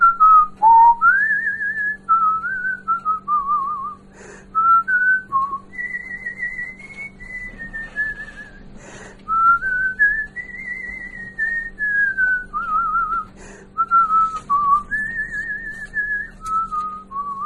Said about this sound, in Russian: А так по улице хожу, так я все насвистываю, что-нибудь. На балкон выйду, тоже все. Что-нибудь насвистываю.